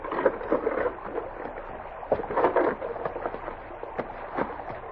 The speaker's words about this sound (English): They beached the boats and got out to face a grinning Pryor in his detail.